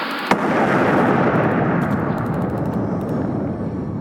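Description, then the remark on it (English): A bomb of 10 pounds of explosive on a homing signal, hidden inside a phone, explodes with one sharp, sudden crack, then a heavy, roaring rumble that holds loud and slowly fades, with scattered crackles and debris pattering through the tail. No voices. “It's 10 pounds of explosive on a homing signal hidden inside that phone.”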